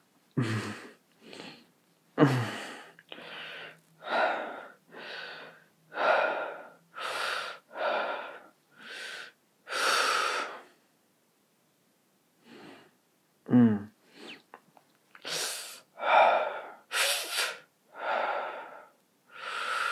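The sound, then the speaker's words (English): Heavy, labored breathing, with a steady run of loud, breathy gasps and exhales and one brief pause midway. No speech. “Sorry, this one's just a lot of heavy breathing.”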